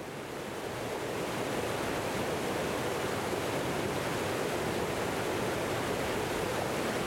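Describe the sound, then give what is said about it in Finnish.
A steady, continuous roar of flowing river water, broad and unbroken, with a soft distant quality and no voices or other sounds standing out. “Jostakin kaukaa erotan virtaavan veden pauhun.”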